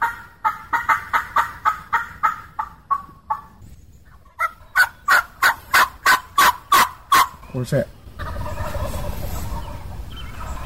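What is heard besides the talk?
wild turkeys gobbling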